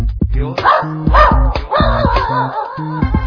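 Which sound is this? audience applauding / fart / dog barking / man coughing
dog barking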